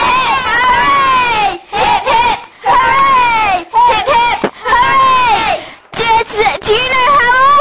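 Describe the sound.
A group of voices gives three birthday cheers, each a short call answered by a loud, drawn-out hooray from the crowd, energetic with brief pauses between.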